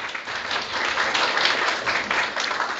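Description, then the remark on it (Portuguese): An audience applauds social assistance professionals standing up at an event, a steady, dense patter of many hands clapping at once, holding a fairly even loudness throughout with no voices standing out. “Bacana, salve de palmas.”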